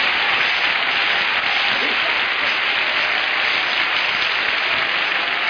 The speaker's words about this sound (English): Everybody shout greater. Again. Again. Clap as unto the Lord.